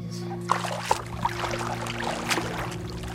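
Gentle water splashes and light paddle strokes as someone paddles around on an old surfboard on a calm small lake, a few soft slaps at an irregular pace over a steady low background hum, quiet.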